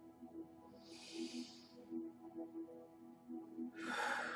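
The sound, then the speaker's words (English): A slow, deep breath drawn in, then a long exhale a few seconds later, both airy, with a soft tonal hum underneath. “Just taking a deep breath, even on a physiological level, it makes the muscles and the nervous system just relax, even just for that moment, and it allows everything to just kind of reset.”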